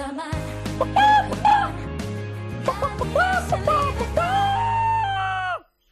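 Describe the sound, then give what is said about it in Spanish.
A flock of Rojamar egg-brand hens in Spain clucks and squawks in loud, overlapping bursts, with a steady low backing hum underneath, before cutting off abruptly. “Las gallinas de Rojamar. Por eso son las mejores gallinas de España.”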